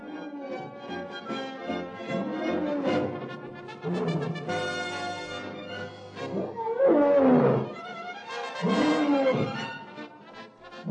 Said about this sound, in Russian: Слышишь? Сильвия Чезарини и ее атласские львы. Ух ты! Самый свирепый зверь, между прочим.